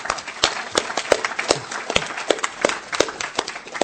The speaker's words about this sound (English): And last of all, I'd like to thank you for coming and making conference such a wonderful experience all round. So I think you can give yourselves a round of applause as well.